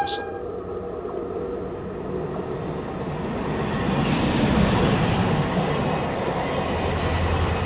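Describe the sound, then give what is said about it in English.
A train rumbles past, its steady roar and rattle swelling louder midway. A brief, faint whistle tone sounds at the very start, with no talking. “And here's the whistle train.”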